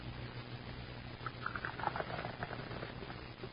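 Hot coffee is poured into a cup in a dining room, a steady trickling splash that swells for a couple of seconds before tapering off over a low background hum, with no talking.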